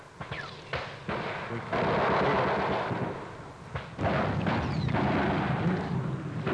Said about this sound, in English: Heavy fire continuing. We're about as low as we can get in this section. Very heavy fire to our front.